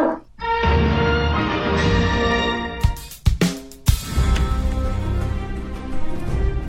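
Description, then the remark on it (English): A dog named Boo Boo whimpers in a long, continuous, high-pitched whine, broken by a few sharp, loud barks in the middle; the sound is steady, with no talking. “Good dog.”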